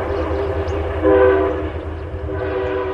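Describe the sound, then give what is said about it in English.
A Metro-North Harlem Line commuter train rumbles steadily in the rain where the Appalachian Trail crosses the tracks near Pawling, New York, while its horn sounds in two long, loud blasts, the second starting near the end, over the continuous low roar of the cars. “Near Pawling, New York, the Appalachian Trail crosses the train tracks of the Metro North Harlem Line.”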